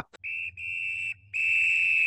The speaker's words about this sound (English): All right, well, there's the final whistle, which means that's our show for this week.